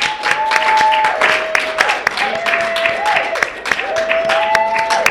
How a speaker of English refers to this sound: So that about does it for this meeting. I'd like to get a quick round of applause for our wonderful speakers.